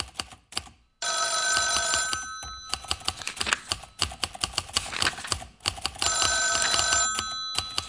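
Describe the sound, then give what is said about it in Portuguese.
Office telephones ring in steady tonal bursts while typewriters clack rapidly and irregularly underneath, the busy, cluttered din of the Record American newspaper office with no voices, fairly loud throughout. “No fundo do escritório do Record American, um lugar onde os telefones tocavam sem parar, os papéis caíam das mesas e as máquinas de datilografia faziam um barulho incessante”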